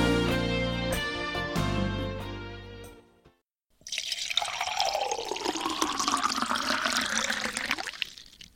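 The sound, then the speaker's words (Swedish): A few seconds of melodic music, a brief silence, then steady pouring of freshly brewed coffee into a cup in a studio for about five seconds, its gurgling pitch shifting as the cup fills. “Det där var ljudet av en kopp kaffe som just hälldes upp.”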